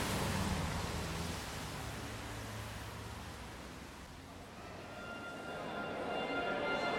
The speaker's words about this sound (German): Der Regen wird zum Wolkenbruch. Die letzten Kilometer hören nie auf.